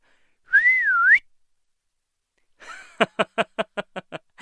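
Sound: human whistling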